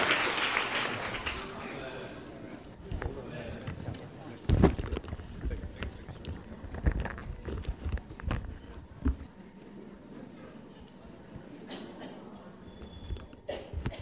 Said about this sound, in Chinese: 好吧，掌声上来。